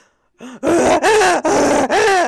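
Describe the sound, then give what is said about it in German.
A person imitates a rutting red deer stag, giving four loud, hoarse bellowing roars in quick succession, each rising and falling in pitch with a rough, strained harmonic tone, preceded by a short grunt. “Imitiere einen brünftigen Hirsch.”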